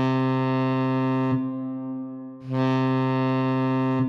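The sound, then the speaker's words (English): A research vessel's alarm signal, played during safety training, sounds as a loud, steady, buzzy horn tone with a rich, brassy timbre. It briefly turns duller for about a second midway, then returns at full strength, with no talking. “First lesson is about the alarm sounds the ship might make, like this one.”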